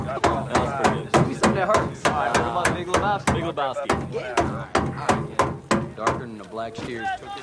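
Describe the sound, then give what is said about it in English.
Hammering on the underside of a vehicle by someone lying on the ground, in Generation Kill: a steady, rapid run of sharp, loud metallic blows, roughly two or three per second, continuing throughout with a voice talking beneath them. “Brad is lying on the ground and hammers on the underside of a vehicle.”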